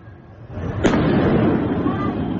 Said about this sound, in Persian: این هم ویدیویی است که نشان می‌دهد انفجارهای داخل زندان اوین احتمالاً به علت شلیک پرتابه‌های نامشخص بوده است.